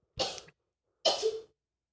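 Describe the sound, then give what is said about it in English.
Two sharp, breathy sneezes burst out about a second apart, each brief and forceful, apparently performed by a voice imitating a sneeze, with silence around them. “Bless you.”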